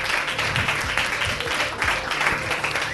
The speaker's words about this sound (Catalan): de fet ja per eliminació queda el millor dolç, doncs el secret de l'Empordà. Per què? Un aplauso primer, va, un aplaudiment.